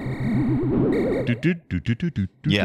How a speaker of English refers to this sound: What it does sound like is Donkey Kong, which I believe they put Donkey Kong in Radar Scope arcade machines.